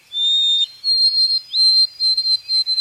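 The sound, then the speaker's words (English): A white-throated sparrow sings long, clear, pure whistles: two sustained notes followed by a quick series of shorter repeated whistled notes, bright, with no other sounds. “The long, clear whistles of the white-throated sparrow.”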